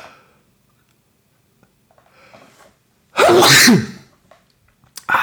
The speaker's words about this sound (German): Sorry für den Nieser. Ich hoffe, ihr seid nicht taub.